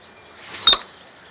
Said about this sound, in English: It's actually coming from his tail feathers. Think of splaying your fingers out wide on one hand. The male spreads his feathers out like that, just as wide as he can, but only momentarily, to generate that faux chirp sound.